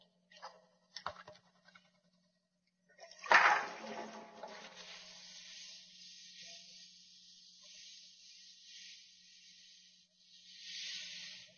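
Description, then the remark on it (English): A few light clinks, then a sink tap gushes on, steadily filling two glasses almost full of water for several seconds, with the flow swelling again briefly near the end. No one speaks. “Okay, next, I would like you to take these two glasses over to the sink and fill them both almost full of water.”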